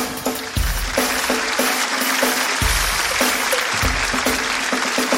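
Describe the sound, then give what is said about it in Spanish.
An audience bursts into steady, dense applause, a continuous wash of many hands clapping loudly throughout, with a few low thumps underneath and no voices standing out, applauding the start of the show Tengo Algo Que Decirte. “¡Un fuerte aplauso!”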